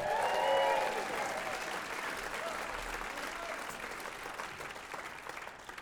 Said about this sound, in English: Yeah, hold your applause, please, for Albuquerque. We've got to go on with the show. Can't just be applauding everyone's hometown.